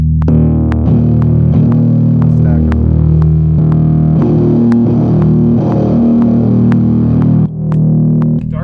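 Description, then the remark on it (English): A bass guitar played through a Badwater pedal set to a little drive, thick and growling with gritty distortion, plucking a loud, steady riff of low sustained notes with sharp attacks over several seconds, no voices. “That's just a little drive on the Badwater, because I have everything.”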